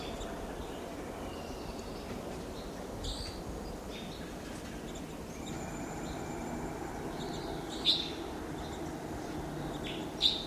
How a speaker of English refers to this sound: Four to five. Wild birds are together at the top of a lodgepole pine here. 4 to 5.